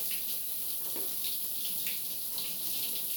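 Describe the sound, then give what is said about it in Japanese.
Steady running water hisses continuously from a shower, a broad even spray with no voices and no breaks. “ああ、俺も一緒にシャワー浴びて。”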